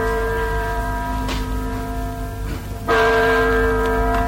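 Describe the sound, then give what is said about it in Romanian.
A clock strikes the hour with resonant, bell-like chimes, each stroke ringing out with a sustained metallic tone and a fresh attack around the third second, with no voices over it. “Bate ceasul.”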